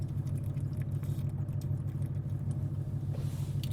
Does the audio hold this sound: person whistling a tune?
no